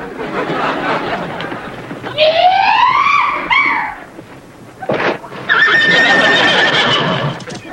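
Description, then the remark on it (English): A horse whinnies loudly with a rising, wavering neigh as a woman jumps onto it, followed by a short burst of noise and a second long whinny, over a busy background that may include hooves clip-clopping. “Did you see the way the woman jumped on that horse?”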